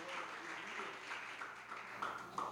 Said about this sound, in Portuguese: Você pode aplaudir o Senhor por isso? Pode aplaudir? Pode aplaudir? Aleluia! Oh, glória!